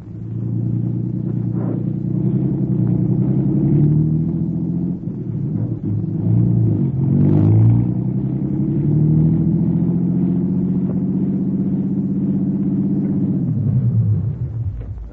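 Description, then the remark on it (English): A car engine drones steadily as the vehicle drives to a rooming house on Garfield, its low hum rising and falling slightly in pitch before cutting off abruptly near the end, with no talking. “Okay, you stay in the car.”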